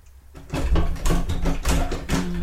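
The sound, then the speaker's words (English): A door being opened with some struggle: a series of loud, rattling knocks and clunks in quick uneven succession, as if the handle is jiggled and the door jolted, with no voices. “He always has trouble with doors as well. Same door. Don't break the handle”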